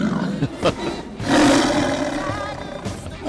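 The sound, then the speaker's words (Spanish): A tiger lets out a loud, rumbling roar, preceded by a couple of short growling snarls and trailing off into a rough, throaty growl. “Ya tenemos más que tigres por todos los lados.”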